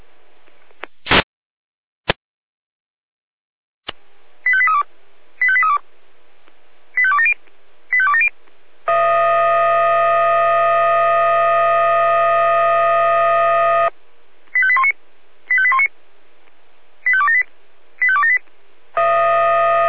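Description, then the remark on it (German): Fire brigade radio alarm call tones alerting units to a confirmed roof truss fire at Hintergasse 27 in Bürgel: paired electronic beeps in a quick pattern, then a long steady multi-tone blast, then more beep pairs, all loud with no voices. “10er Alarmruf.”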